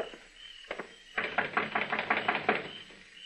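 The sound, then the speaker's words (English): Knocking on the door of a shack on Cox's Lane: two quick taps, then a rapid, fairly loud run of about ten sharp raps, with no voices. “Knock on the door.”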